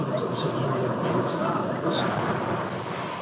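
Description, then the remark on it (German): A subway train pulls away, its steady rumble filling the space while brief high-pitched squeals recur every second or so over the constant roar. “Die U-Bahn fährt an.”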